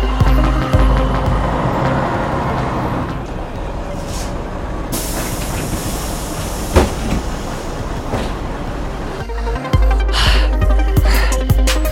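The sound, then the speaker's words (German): A bus pulls in amid steady street traffic, its heavy engine rumbling and a loud hiss of air brakes bursting out midway. No one speaks. “Ah, ich sehe da schon einen Bus.”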